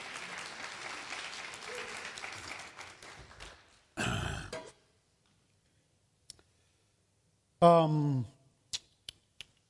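Audience applause, a dense patter of many hands, fades out over about four seconds. A short noisy burst, a brief voice and a few sharp clicks follow in otherwise quiet surroundings.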